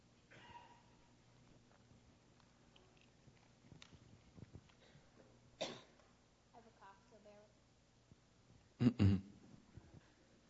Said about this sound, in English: I have a cough, so bear with me.